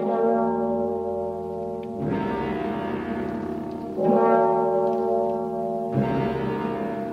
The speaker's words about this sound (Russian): И тотчас грянули колокола, и заиграла хриплая музыка.